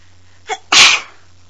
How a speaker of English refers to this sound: excuse me. We are both sneezing today.